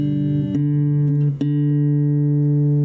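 A guitar being tuned: a sustained low string note rings steadily, is plucked again twice, and its pitch bends slightly before settling, with no talking.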